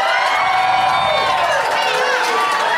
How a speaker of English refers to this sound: All right. The people that applauded, if you go to the Fat Dog, which is a bar and restaurant in Los Angeles on Fairfax, Rufio is a waiter.